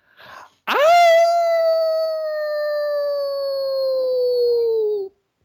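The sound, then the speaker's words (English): A person lets out a long, loud imitation of a hound dog howl, rising sharply then holding a steady, slowly falling tone for about four seconds, preceded by a brief breath. “Well, we have a tradition here, and we close every show out with our guest giving us their best old hound dog howl.”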